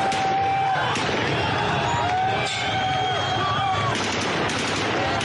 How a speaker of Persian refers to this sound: نیروهای امنیتی آسمان شب را به صدای گلوله مزین می‌کنند و جمهوری اسلامی یک قطر را با کشتاری دیگر سرکوب می‌کند.